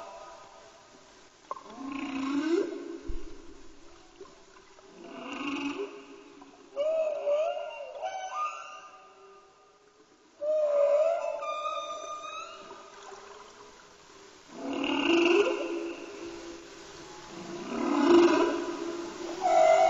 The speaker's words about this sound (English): Many of the aquatic animals sound just like synthesizers. You'll see some on the examples. So this is just plain whale sounds.